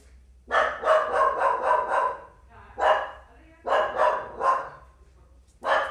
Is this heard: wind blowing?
no